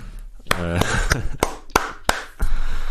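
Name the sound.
clapping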